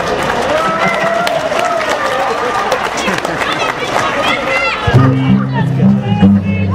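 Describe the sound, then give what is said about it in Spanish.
An audience at a live music performance claps steadily and fairly loudly for several seconds, a dense patter of many hands, before a sustained musical tone cuts in near the end while the clapping fades under it. “A gusto y libre, también aplaudan.”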